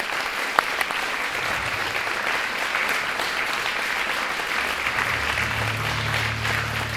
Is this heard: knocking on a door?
no